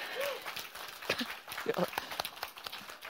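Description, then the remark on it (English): A group of people clapping in a dense, uneven patter of sharp slaps that runs throughout, with a few brief voice sounds mixed in. “I guess it's the clapping vibe.”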